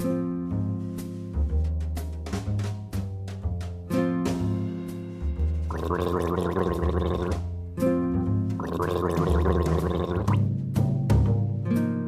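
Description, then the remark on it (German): Someone gargles water while voicing a steady hum, doing the well-known water-glass exercise for practising the throat R (German Rachen-R); the bubbling grows louder and rougher in two longer stretches between shorter voiced bursts. No talking is heard. “Anfangen tue ich immer mit der ganz berühmten Wasserglasübung, weil es tatsächlich so ist, das Nichtbeherrschen des Rachen-Rs ist eine Faulheit der Zungenwurzel.”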